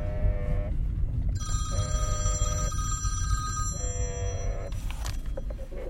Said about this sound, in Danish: Nå, nu ringer min telefon sådan lige.